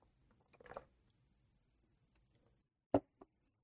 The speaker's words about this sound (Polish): Dobra, to napijesz się ze mną wody?